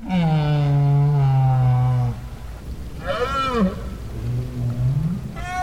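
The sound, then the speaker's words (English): Right whale calls recorded underwater at the Bay of Fundy, where Maine meets Canada: a long, loud, low moan, then a shorter warbling upsweep and further low tonal calls, all over a steady murky background rumble. “50 years later, Parkes made another recording of right whales at the Bay of Fundy, where Maine meets Canada.”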